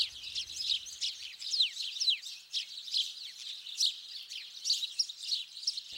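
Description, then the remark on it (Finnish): Many birds sing and chirp together in a continuous, overlapping chorus of bright, rapid trills and tweets, steady throughout, with no voices. “Nekin purkaavat tuntensa laulamalla.”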